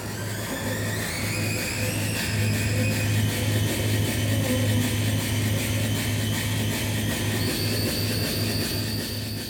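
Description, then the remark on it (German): Harsh experimental noise music by an artist made with a bee smoker, an empty honeycomb and many cables: a loud, unbroken wall of grinding drone over a pulsing low hum, with thin whining tones sliding upward. No voices. “Neben einer leeren Bienenwabe und etlichen Kabeln entstehen sehr laute Geräusche.”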